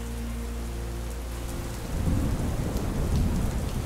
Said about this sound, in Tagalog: Pasado 9:00 ng umaga, nang biglang lumakas ng huso ang ulan. Bumugso ang buhos ng ulan at ihip ng hangin papasok ng bintana.